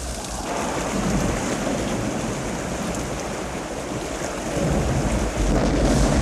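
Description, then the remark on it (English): Torrential rain pours down in a dense, continuous loud roar, with a deep rumbling swell building toward the end: the primordial deluge on the early Earth as clouds of gas and steam condense and rain upon the planet. No one speaks. “The deluge.”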